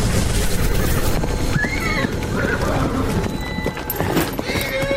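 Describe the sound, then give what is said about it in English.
Horse hooves clip-clop in a quick, steady rhythm, with a brief whinny partway through and a busy, noisy background throughout; a mare summoned by her rider arriving. “Let me just summon my dame horse. She's always just a few seconds away.”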